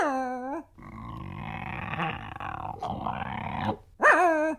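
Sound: large dog growling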